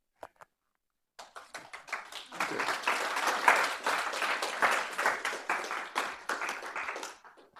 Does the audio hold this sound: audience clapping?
yes